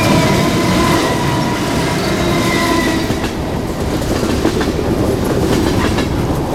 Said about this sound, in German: Ziemlich schnell für einen Güterzug.